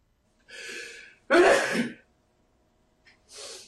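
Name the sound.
sneeze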